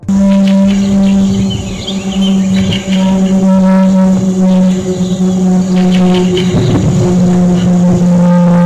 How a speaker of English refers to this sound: an experimental supersonic propeller aircraft, the Republic XF-84H Thunder Screech. So why was it called such a weird name like Thunder Screech? The plane was so loud that it caused seizures and vomiting for those who were unlucky enough to hear it.